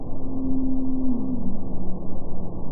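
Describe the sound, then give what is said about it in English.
A blue whale song sped up ten times: a steady low hum that slides gently downward in pitch over a couple of seconds, set against a constant rumbling underwater noise floor. “By the way, that's sped up 10 times so you can hear it.”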